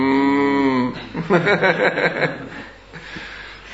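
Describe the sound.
A person gives a short, drawn-out mooing imitation of a cow, fairly loud, immediately followed by a burst of chuckling laughter that trails off.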